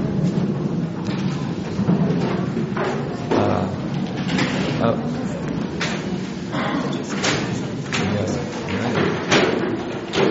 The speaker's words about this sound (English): the plastic chairs, just put them to the back. We won't need them for this evening.